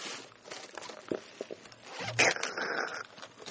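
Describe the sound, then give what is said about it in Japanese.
Raspy zipping strokes of a cutter blade slicing open a heavy package, about the weight of six pairs of shoes, with light rustling and scraping of cardboard before a louder, longer cut near the end. “カッターもあるよ。 あ、カッターの方いいのかな？”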